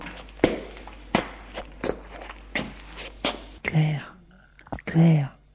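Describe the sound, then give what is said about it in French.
Six slow, uneven footsteps thud at irregular intervals as a man walks hesitantly toward a door, followed by two short bursts of a breathy voice speaking. “Hésitant, il va vers la porte.”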